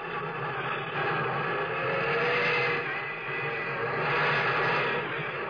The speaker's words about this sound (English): And there goes the champion. There goes the Milwaukee Railroad's new great streamlined locomotive. An orange and silver bullet streaking across the country on the fast Chicago to Minneapolis run.